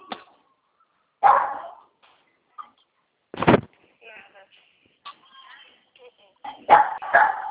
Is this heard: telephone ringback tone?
no